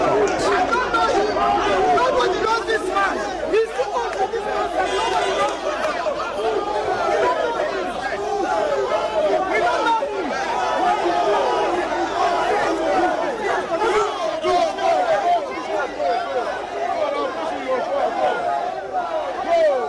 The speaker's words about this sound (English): Quite the rowdy crowd there. Lots of people surrounding the gentleman, calling him ole, ole, ole, and, you know, just essentially yelling at him.